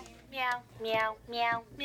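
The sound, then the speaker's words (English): A cat toy piano plays recorded meow sounds: three clear, evenly spaced meows in a row, each rising then falling in pitch, loud with no talking. “That is a meowing piano.”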